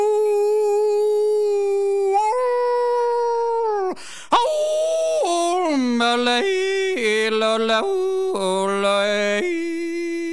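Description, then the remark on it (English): A single voice imitates a long coyote-style howl at the moon, rising and falling in drawn-out wavering slides, loud, with a brief break midway before the wailing resumes for about ten seconds. “Then he'd go on the high ridge and howl at the moon. You know, that howl!”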